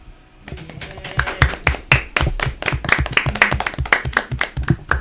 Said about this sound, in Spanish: Un aplauso.